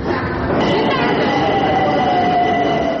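Steady, loud rumble inside a moving metro car, with a continuous roar and faint high metallic squeals drifting across, the whole clip dense and constant without pauses.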